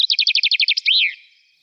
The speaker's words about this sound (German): Da haben wir häufig übersehene und überhörte Vögel, die durchaus, wie gesagt, häufig sind, wie zum Beispiel der Buchfink, aber die man halt erstmal wahrnehmen muss. Buchfink, der hört sich so an.